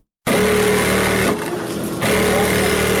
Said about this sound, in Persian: اینجا صنف کلان خیاطی است که دختران دور یک میز کلان با ماشین‌های برقی خیاطی لباس می‌دوزند.